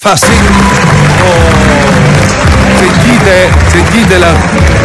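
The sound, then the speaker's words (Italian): Loud, sustained applause from a large French audience at the Louvre in Paris for a film by Luciano De Crescenzo fills the whole stretch, dense and continuous, with voices and shouts mixed into the clapping. “Allora, ce l'abbiamo gli applausi.”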